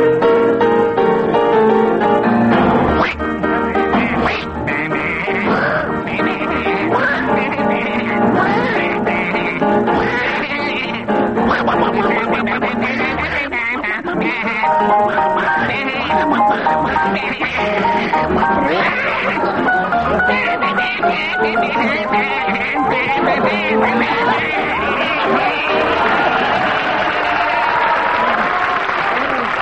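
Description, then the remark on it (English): Two voices sing a song, jaunty and fast, entirely in imitation animal noises, one quacking like a duck and the other bleating like a sheep, with piano backing and an audience laughing and cheering throughout. “Bill and Tim, your tune is …, to be sung, please, as Tiger? A duck and a sheep.”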